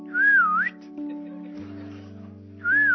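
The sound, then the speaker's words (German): A mother whistles her family's personal call, a short wavering call, repeated after a pause, with a steady low hum underneath. The whistle is clear, with no talking. “Also bei unserer Familie war es immer so, meine Mutter hat immer gepfiffen. Immer so.”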